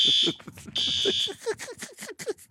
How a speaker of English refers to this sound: The fire alarm just went off. Scared the crap out of me. The fire alarm has gone off here at our studios.